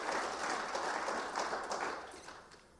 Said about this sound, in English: That's reason to celebrate. Yeah, if you want to clap, go for it.